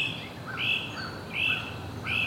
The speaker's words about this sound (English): Pretty soon, we hear the raucous rasp of a great crested flycatcher.